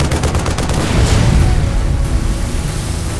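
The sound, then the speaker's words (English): Heavy automatic fire from a deck-mounted 40-millimeter machine cannon rattles off in rapid bursts at approaching speedboats, loud, with deep booming thuds rolling into a dense, rumbling roar. No voices are heard. “The SEAL rose to his position at the deck-mounted 40-millimeter machine cannon as the first of the speedboats raced toward them.”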